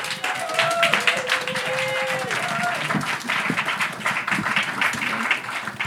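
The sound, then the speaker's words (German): Steady applause from an audience at a poetry slam, welcoming a young performer onto the stage: dense clapping with a few scattered whoops and cheers rising over it, continuing without a break. “Herzlichen Applaus für sie.”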